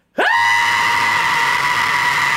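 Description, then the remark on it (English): A single loud, sustained human scream bursts in abruptly after a brief silence and holds at a steady high pitch for about two seconds, piercing with no talking. “I can still scream pretty loud.”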